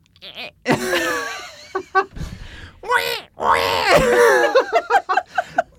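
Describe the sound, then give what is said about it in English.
A person tries to mimic a squealing pig, producing several strained, high-pitched squeals and wheezy inhaled shrieks with a breathy gasp between attempts, broken by short bursts of sound. “Why can't I think of how a pig makes a screaming noise? Oh, there I have to suck in.”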